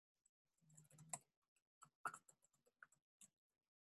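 Irregular bursts of crisp clicks from someone typing notes on a computer keyboard, fairly quiet, with short pauses between clusters of keystrokes and no talking.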